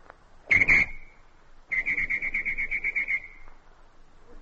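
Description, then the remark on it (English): A person imitates a traffic whistle using only their mouth: one short, loud trilling blast, a brief pause, then a longer warbling whistle with a rapid fluttering rhythm, clear with no talking. “Well, the first one is the imitation of a traffic whistle.”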